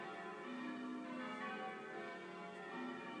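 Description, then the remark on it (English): Church bells in Richmond pealing continuously as ringers work through a changing sequence, a dense wash of overlapping metallic tones with steady rhythm and lingering resonance, fairly loud and with no voices present. “If you look up Richmond ringing on Audio Boo, you can find my recordings from earlier this year of these same bells.”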